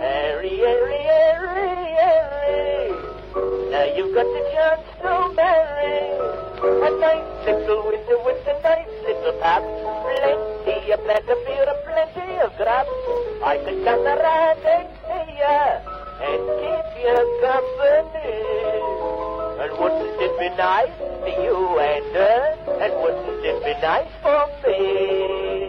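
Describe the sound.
An old, thin-sounding recording of a music hall song from 1904, with a male voice singing over a lively accompaniment, continuous and fairly loud, with a muffled, band-limited tone.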